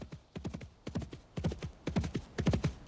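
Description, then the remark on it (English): Horse hooves canter steadily, the thudding beats falling in quick repeating groups of three with no voices. “horse easily outdistances the few mounted guards, who, for some reason, appear anxious to talk to him.”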